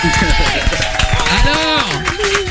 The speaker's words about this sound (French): Stéphane mérite des applaudissements